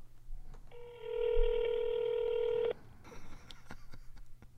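telephone dialing tones

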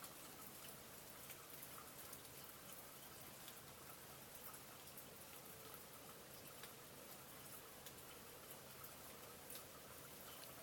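gentle rain falling

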